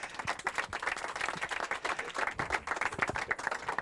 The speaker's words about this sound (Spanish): Servando Canela, un aplauso por favor para este hombre.